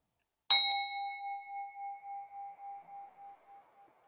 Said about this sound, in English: Little bell rings, ting, ting, ting. Oh, beloved little bell goes ting, ting, ting. Oh, I need a better bell.